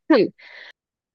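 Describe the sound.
A single short, voiced cough, fairly loud, followed by a breathy, hissing exhale that trails off into silence.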